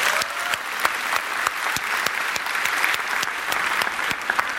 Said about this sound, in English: I think they should all just deserve a big hand of applause, would you?